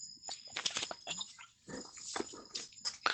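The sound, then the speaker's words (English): A golden retriever dog named Bodhi whimpers and growls in short, uneven bursts, with snuffling and grumbly vocal noises, no talking. “Are you going to make a pest out of yourself? Say, of course I am, because I'm a golden retriever, and that's all I do.”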